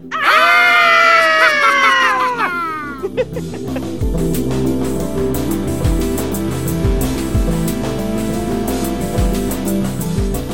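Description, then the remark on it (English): A few voices let out loud, drawn-out theatrical Halloween screams together for about two seconds, trailing off into a brief scatter of noise before music starts and continues to the end. “And to introduce Scream Time, I think we should all give our best Halloween scream.”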